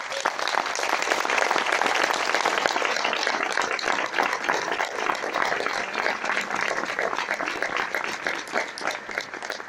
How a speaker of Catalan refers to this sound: Aquí aquest poble, gairebé totes les entitats funcionen perquè al davant hi ha les dones. I els demano un fort aplaudiment per elles.